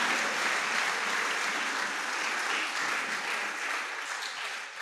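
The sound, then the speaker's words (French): Steady audience applause for a grandmother, a dense wash of many hands clapping at once, holding at an even, fairly loud level before easing slightly toward the end, with no voices over it. “Please clap for my grandmother.”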